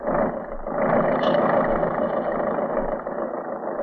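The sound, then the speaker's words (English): A tractor engine starts and runs loud, a steady rough drone with a slight swell just after it begins, continuing unbroken with no voices; the tractor works Mac Rush's mechanical cotton picker down a cotton row. “All right, Jack, start the tractor.”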